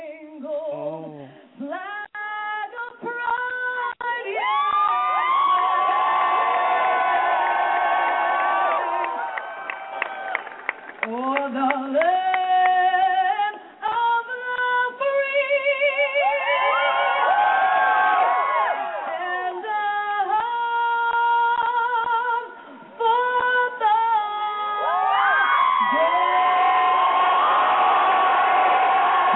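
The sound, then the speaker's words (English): A large crowd screams and cheers loudly and almost continuously, with high shrieking voices rising and falling in overlapping waves and a couple of brief lulls before the roar surges again. “Playing the scream in between.”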